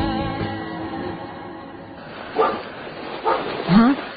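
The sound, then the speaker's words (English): A dog, in for the night, gives three short, muffled barks in the second half, spaced about a second apart, at someone in the yard, over a low murmur of background noise that carries through the whole clip. “He'd suffocate herself to keep from barking loud when he's in for the night.”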